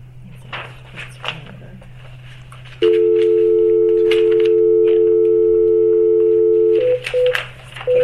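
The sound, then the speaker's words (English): A loud, steady telephone dial tone holds for about four seconds, followed by a few short dialing beeps as a call is placed from a main phone line, over a faint low hum and scattered background shuffling. “I'm going to disconnect you from my cell phone, and we're going to call you back on the main phone.”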